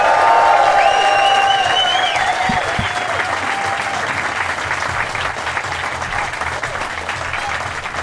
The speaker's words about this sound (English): So I want a lot of excitement in the room. I want to get some applause going from now. Get it, build it nice and low so that the mics get ready for it. And a big cheer as I welcome to the stage Kermode on Film, ladies and gentlemen.